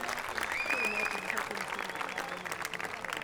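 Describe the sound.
Steady applause from a sizable crowd for contest winners, dense clapping filling the space for a few seconds, with a sharp whistle rising over it and scattered voices mixed in.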